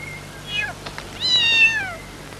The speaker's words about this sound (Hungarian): Már megint itt a macska.